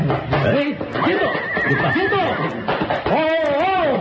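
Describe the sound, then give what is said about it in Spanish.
Agitated, nervous horses neigh and whinny repeatedly and loudly, with rising-and-falling cries overlapping one another, and a few faint clip-clops of hooves mixed in underneath. “¿Qué les pasa a los caballos? Están nerviosos.”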